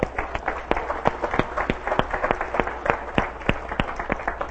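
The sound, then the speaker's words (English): A church audience claps together in a steady burst of applause, giving a hand clap of praise to the Lord, many hands producing sharp, overlapping claps at a brisk, fairly even rhythm, with no voices heard. “So would you join me in just giving a hand clap of praise to the Lord?”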